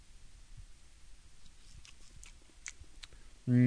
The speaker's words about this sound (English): Tasty Newtons. You can totally edit out that goddamn chewing sound.